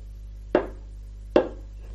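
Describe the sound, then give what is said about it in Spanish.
Two firm knocks at night on the wooden door of a lighthouse on the seashore, spaced under a second apart, each a hollow, mid-pitched thud that fades quickly, over a steady low background hum. “Llamó a la puerta de madera.”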